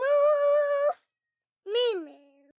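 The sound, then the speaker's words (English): A high-pitched voice imitates a cow's moo twice: a steady, sustained first call, a pause, then a shorter call that rises slightly and trails off. “But in cow language, they say hello by mooing.”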